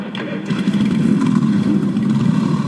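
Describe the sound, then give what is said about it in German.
A dense roar of many motorcycle engines starting up and revving together as bikers mount up along Ludwig-Erhard-Straße at the close of a motorcyclists' church service event, a loud, continuous rumbling mass of overlapping engines with throttle blips rising above it. “Entlang der Ludwig-Erhard-Straße sitzen Bikerinnen und Biker auf und lassen ihre Maschinen an.”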